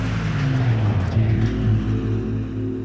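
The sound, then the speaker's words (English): An off-duty taxi driver, Hugh Gravett, speeds his car around a bend on Peachtree in Atlanta, heading right for Peggy Mitchell and her husband crossing mid-block; the engine roars, a loud, steady low rumble whose pitch shifts slightly through the turn. “An off-duty taxi driver named Hugh Gravett comes barreling around the bend. His car is heading right for the couple.”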